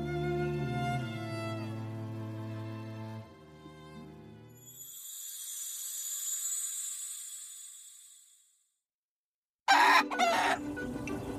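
A rooster crows loudly in a long, rising-and-falling call, followed by a pause and then a burst of sharp chicken clucking and squawking.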